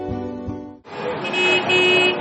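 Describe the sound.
Truck horns blare loudly and continuously in downtown Ottawa on a frigid night during a truckers' protest, a sustained tone giving way to several overlapping horns over a dense wash of crowd and street noise, with indistinct voices mixed in.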